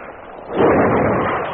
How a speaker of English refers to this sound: Hear that? Yeah. That's probably help shift them. Navy gunfire. Our warship's out there, a blast now. Point blank.